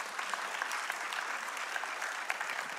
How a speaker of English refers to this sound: Will you all just stand up and be recognized in this moment? And you can stay standing for all of these. Yeah, you guys can clap. It's good.